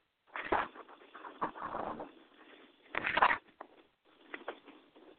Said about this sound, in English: Hello, caller. I can hear you shuffling around over there.